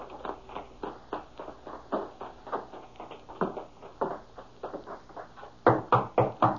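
knocking on a door

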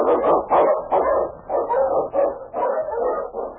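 sled dog barking

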